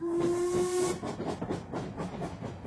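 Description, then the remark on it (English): A boat train's steam whistle sounds a steady, loud tone for about a second, then cuts off, leaving a rush of hissing steam and rhythmic chuffing, with no voices. “I travelled by the boat train, taking with me, once again as my secretary, Miss Jane Grey.”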